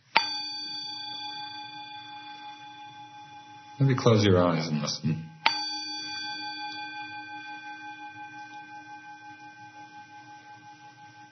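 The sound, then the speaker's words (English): A meditation bell is struck and rings with a long, shimmering sustain; a voice speaks briefly, then the bell is struck again and slowly fades away over several seconds. “When you're just with the experience, there's no bell, there's no ear, there's no inside, there's no outside, there's just hearing.”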